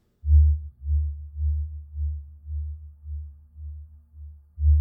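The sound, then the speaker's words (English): A deep, mysterious low hum of unknown source from the Pascagoula River drones steadily, swelling and fading in a slow, regular pulse about twice per second, fairly loud and with no voices. “the most well-known and modern version of these tales, claims that the sound is the echoes of the Pascagoula people themselves, a small, peaceful tribe who once made the banks of the river their home.”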